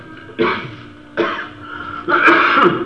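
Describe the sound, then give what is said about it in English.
Three loud coughs with throat-clearing rasp, each a sharp burst spaced about a second apart, the last one longer and harsher, with no talking. “Kid, got something in your throat? I don't know. I just started to come cough.”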